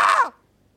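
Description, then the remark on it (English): A person imitates the screaming goat meme with one loud, harsh, raspy yell that slides downward in pitch and cuts off after about a quarter second, followed by silence. “I'm impersonating screaming goat meme.”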